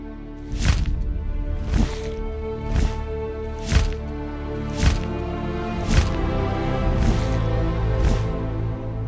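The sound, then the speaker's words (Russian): The powerful membranous wings of a huge beast flap in a steady rhythm, about eight broad whooshing beats roughly a second apart, over a low, sustained musical drone, in a valley on a calm, moonlit night. “Вдруг воздух разрезал шелест чисто мощных крыльев.”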